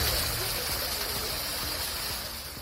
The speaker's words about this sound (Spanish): Los agricultores franceses han vuelto a bloquear el paso al país galo a los camiones internacionales procedentes de España y lo que escuchabas hace unos momentos es el vino derramándose en la carretera.